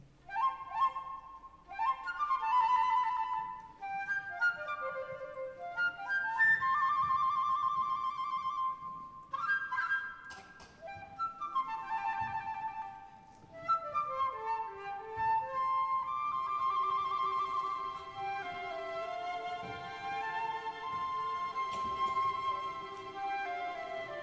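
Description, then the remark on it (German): A woman plays a silver flute alone, a flowing, bright melody with bending notes and quick runs rising and falling in a steady, moderately loud stream, pausing briefly now and then. “Da greift die Frau nach der silbernen Flöte und beginnt darauf zu spielen.”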